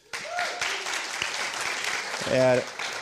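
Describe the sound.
A crowd applauds steadily for a few seconds, dense clapping throughout, with a brief voice rising over it near the end; the applause is for the subtitles made for a film just shown.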